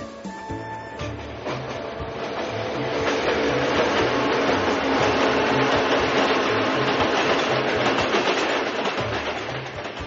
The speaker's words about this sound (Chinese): 不久之后，火车从大宝眼前快速呼啸而过